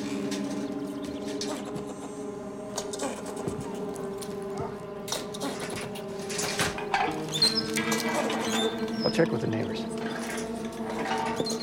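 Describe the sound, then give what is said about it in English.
Rodents scurrying about inside a residence being searched by the Santa Rosa Police Department, in quick, scratchy patters and light ticking clicks, scattered irregularly over a steady tonal hum, with people talking briefly in the background. “There's rodents running around.”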